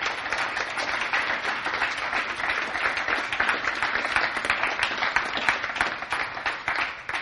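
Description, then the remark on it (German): A crowd applauds a music conservatory class steadily for several seconds, a dense wash of many hands clapping at an even, fairly loud level with no voices standing out. “Und ich denke, wir geben Ihnen nochmals einen Applaus.”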